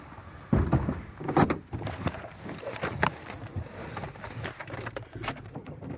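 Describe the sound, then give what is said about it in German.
Several sharp clunks and rattles, like car doors shutting and handling inside a vehicle, over a steady low rumble as the car sets off and drives to another site on the Ottenberg. No one speaks. “Im Auto geht's zu einem anderen Schauplatz auf dem Ottenberg.”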